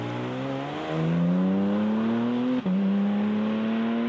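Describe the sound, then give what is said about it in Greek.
The naturally aspirated GT3 engine of a Spider RS sports car revs hard, its loud howl climbing steadily in pitch, with a brief break partway through before the rising wail resumes. No one speaks. “Έχουμε για παράδειγμα Spider RS, το οποίο έχει GT3 κινητήρα, ατμόσφαιρα, αυτό.”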